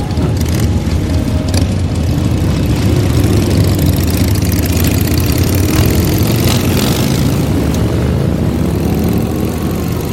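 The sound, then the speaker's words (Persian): A Harley-Davidson motorcycle with licence plate 70-44 idles with a loud, steady low rumble and a throbbing, uneven chug that runs without a break for the whole clip, with no voices. “همین جاست، پلاک 70-44 هارلی دیویدسون.”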